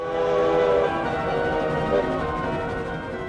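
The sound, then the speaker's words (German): A steam locomotive train rattles and rumbles steadily through a snowy Swiss winter landscape of snow-covered forests and high bridges over deep gorges, with a sustained droning tone riding over the mechanical clatter throughout, and no voices. “Ein Zug mit ratternder Dampflok arbeitet sich durch eine Schweizer Winterlandschaft, durch schneebedeckte Wälder, auf hohen Brücken über tiefe Schluchten.”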